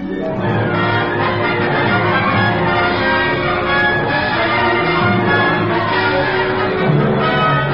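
A loud alarm bell rings without pause, its clanging strokes blurring into a dense wash of overlapping metallic tones that fill the whole stretch, with no voices heard.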